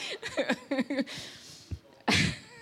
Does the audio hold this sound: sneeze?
yes